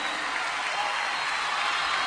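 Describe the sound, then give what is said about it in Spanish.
A steady wash of audience applause for a guest on the programme Lobo Suelto, dense and crackling with no break in its texture, holding at an even level for about two seconds with no voices heard. “Quiero que le den un fuerte aplauso, loco.”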